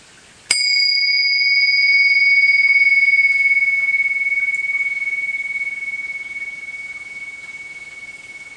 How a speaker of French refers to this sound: Je vais commencer la soirée par un petit son de cloche, juste pour nous rappeler justement que l'esprit est un et que dans cette écoute, nous sommes aussi un.